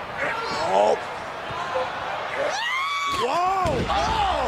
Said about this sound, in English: I watched this scream three times. Did you hear the scream? Is that the new Wilhelm scream? Wrestling?